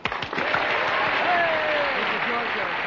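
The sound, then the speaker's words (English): A crowd bursts into sustained applause on cue, a dense, steady wash of many hands clapping at an even loudness for a few seconds, with faint voices mixed in underneath. “Okay, cue the clap now.”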